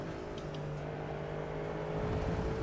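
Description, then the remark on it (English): A racing car engine drones steadily during a race while gaining on the car in front, a low humming tone over rushing noise that swells slightly louder near the end as it accelerates; no voices. “And this is the first time I've driven this car around here.”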